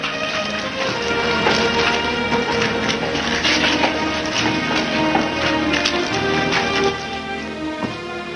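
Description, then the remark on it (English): Steady clopping of horse hooves mixed with the shuffle of many marching feet as a heavy-footed troop follows in through a front gate, one horse ridden and another walked; a dense, continuous tramp with no voices. “The heavy-footed troop follows, their overcoats spattered with mud.”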